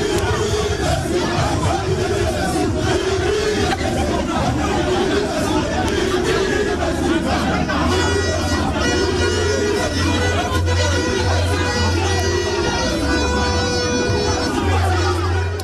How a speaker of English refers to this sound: Sounds of angry NDC supporters at the Electoral Commission headquarters in the Asante Regional Capital, Kumasi, where clash with the police left shattered glasses at the EC offices.